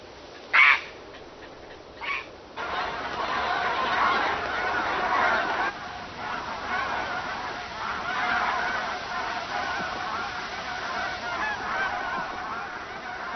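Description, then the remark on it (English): A migrating flock of geese on its southward journey honks in a dense, continuous chorus, opening with two loud honks before many overlapping calls swell and carry on steadily, with no one speaking. “At this point, many of the migrating bird flocks are barely halfway along their southward journey.”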